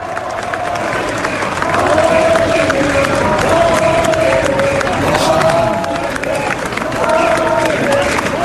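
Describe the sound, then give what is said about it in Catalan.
A crowd applauds steadily outside the court on Passeig Lluís Companys, dense clapping mixed with cheers and a murmur of voices, loud and continuous with brief rising swells, as people form a corridor for Laura Borràs to pass and enter the court. “unes tanques que fan com una mena de passadís ample des del passeig Lluís Companys fins a l'entrada del tribunal perquè pugui entrar-hi Laura Borràs, que ara sentim els aplaudiments, i la gent està fent com una mena de passadís per deixar-la passar.”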